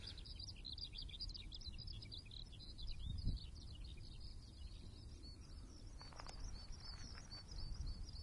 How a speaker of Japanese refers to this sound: これ、今、一番鳴いてるのヒバリですね。ええ。この辺多いんですよ、ここ一角が。